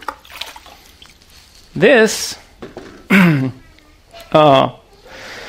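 Water is poured into a pitcher in three short bursts of splashing and gurgling, each with a resonant tone that shifts as the vessel fills, separated by brief pauses.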